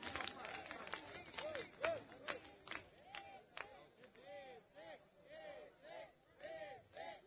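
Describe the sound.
Scattered, uneven applause from an audience, sharp claps mixed with crowd voices and calls; the clapping thins out after a few seconds while chatter continues.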